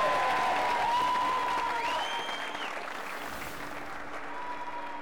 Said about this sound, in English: First time he's been here, I think he deserves a round of applause.